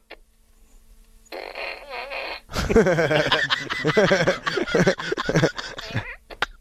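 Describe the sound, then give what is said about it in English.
A short buzzy hiss, then a loud, sputtering fart noise from a novelty fart gun, blaring with wet, rippling bursts for several seconds before cutting off. “It started to get... when he grabbed the fart gun”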